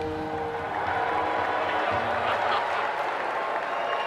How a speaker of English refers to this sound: They're booing him, in case you can't hear that.